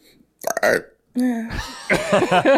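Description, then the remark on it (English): A short, loud burp erupts, followed by a longer, drawn-out belch with a raspy, rumbling tone, then people start talking. “That wasn't us that burped.”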